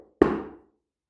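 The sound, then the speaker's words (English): A single knock of a finger on a wooden table: a sharp, solid tap with a short resonant body that fades within about half a second, followed by silence. “Where the sounds come from? From my finger or from the table?”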